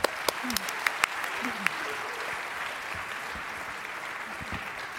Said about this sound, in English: So a round of applause for our amazing speakers, and let's begin the talk.